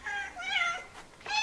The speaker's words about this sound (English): Oh, kitty cats. Oh. Oh, so cute.